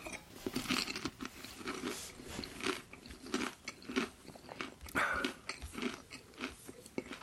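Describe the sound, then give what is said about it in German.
Someone crunches on a dry snack, with a steady run of crisp, crackly bites and chewing that repeat in an uneven rhythm for several seconds, with no talking over it. “Einmal Knabberzeug, ja? Mhm. Einmal knabbern.”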